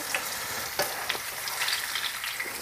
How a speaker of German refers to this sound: Also ich habe Marshmallows, glaube ich, noch nie in Fett reingeschmissen.